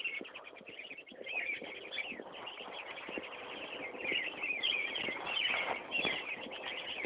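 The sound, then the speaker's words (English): Birds chirp and twitter steadily throughout, a busy chorus of high calls, beneath occasional soft crunching footsteps of a person walking outdoors in sunshine. “There's some birds here too.”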